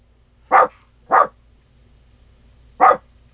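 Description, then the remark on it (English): A female dog barks three times in the background, two quick barks close together, a pause, then one more; loud, with no talking over them. “Sorry, my dog is barking in the background.”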